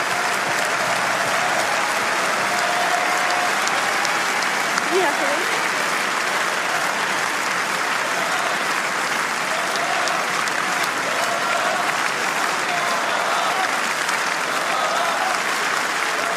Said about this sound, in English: Mesdames et messieurs, on va profiter d'applaudir et raccompagner la Française Varvara Gracheva. Merci.